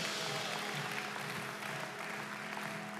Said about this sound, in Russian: Давайте Богу дадим громкие аплодисменты.